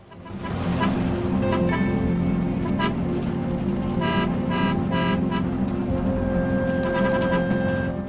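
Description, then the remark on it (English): An impatient driver's car moves up behind a pickup truck and honks: a steady engine rumble runs throughout while the horn sounds several short and medium honks in irregular bursts, ending with one long, sustained blast. “A car moves up behind the pickup truck.”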